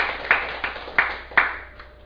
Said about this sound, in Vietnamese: Xin quý vị sẽ cho một tràng pháo tay.